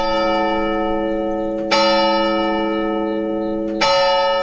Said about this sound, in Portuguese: Este sino, toda a gente o reconheceu. Isto é uma permanência dos sons do mundo rural.